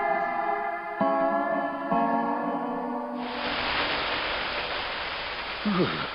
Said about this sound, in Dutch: Maar het regent er nog steeds. Ik zeg het maar even.